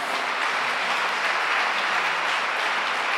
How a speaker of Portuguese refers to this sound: Dá mais uma salva de palmas a ele.